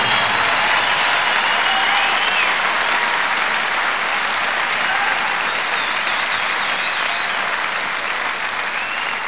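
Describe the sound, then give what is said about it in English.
Sustained applause from a large audience at a live concert, given for the production and road crew, a dense wash of clapping that stays loud and steady throughout, with faint whistles and cheers rising above it. “But you know, it wouldn't have been at all possible without the best production and road crew in the entire world, and I want you to give them a big round of applause.”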